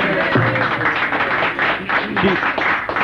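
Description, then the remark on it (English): An audience gives a round of applause for the woman who takes the requests, clapping in steady, dense applause that holds at an even, fairly loud level for about three seconds, with a few voices murmuring faintly underneath. “So we give a little bit of a round of applause.”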